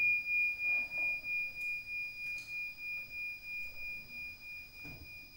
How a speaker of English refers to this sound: Can you listen to the sound of the bell at the same time as you're aware of the awareness that is listening? In other words, aware of yourself as the presence in which the sound happens.